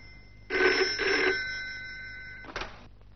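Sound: telephone ringing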